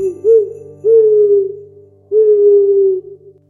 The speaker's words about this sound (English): Yes, an owl.